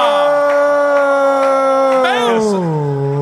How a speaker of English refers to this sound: Oh. I didn't know you get booed for getting it wrong.